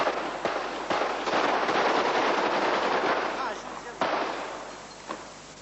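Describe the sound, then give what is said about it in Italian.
Rapid bursts of machine-gun fire crackle over a harsh, continuous wash of noise, with several louder sharp shots punching through at irregular moments before the sound slowly thins out: a firing squad of six soldiers executing a deposed dictator and his wife in a barracks courtyard. “La fucilazione, con raffiche di mitra, è immediata, forse addirittura anticipata, per l'impazienza dei soldati.”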